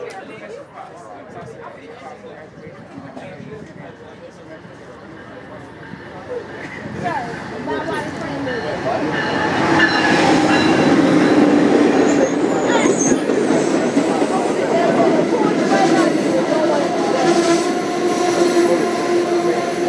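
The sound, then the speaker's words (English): A train rumbles past, its roar building after a few seconds into a loud, steady clatter with faint metallic squealing, while people chatter indistinctly in the background. “Yeah, we don't need to get run over by no train.”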